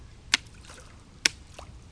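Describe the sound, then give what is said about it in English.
Three sharp splashes in river water made by a child playing with a stick by the river, spaced unevenly over two seconds, with softer sloshing and trickling in between and no voices. “Go on, do a splash so we can hear it.”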